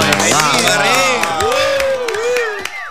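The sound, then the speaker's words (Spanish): Audience applause for a visiting Uruguayan milonga-rock group in Buenos Aires, with scattered claps and loud overlapping cheers and whoops from a crowd, steady throughout and fading slightly at the end. “Un aplauso para ellos.”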